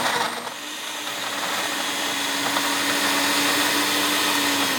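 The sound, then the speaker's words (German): A blender in a music pub in Würzburg, Germany, runs loud and steady, its motor whining with a gritty, rattling churn as it crushes ice, strawberries, sugar, vodka and lemon juice, holding constant for several seconds with no voices. “schüttet Eis, Erdbeeren, Zucker, Wodka, Zitronensaft in den Mixer. Das wird mal ein wenig laut.”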